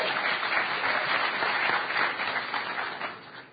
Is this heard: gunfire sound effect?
no